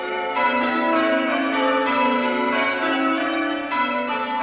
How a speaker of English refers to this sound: The church bells of the last pit in the Rhondda Valley rang out.